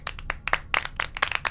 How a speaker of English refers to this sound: Clap again.